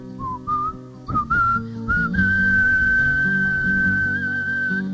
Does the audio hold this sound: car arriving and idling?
no